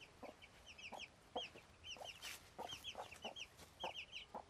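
A flock of young, frightened chickens about two to three weeks old clucking and chirping, with many short overlapping calls in a busy, steady chatter. No one speaks.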